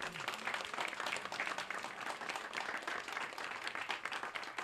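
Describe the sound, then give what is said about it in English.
A crowd at a Burlington Municipal Band concert on KBUR applauds the sponsor, Standard of Beaverdale, many hands clapping in a dense, continuous wash of sharp claps that holds an even level throughout, with no voices rising above it. “Could I have a round of applause for them?”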